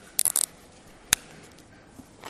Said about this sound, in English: And that's page 919. I hear the page is shuffling, so I thought I'd help you out there just a little bit.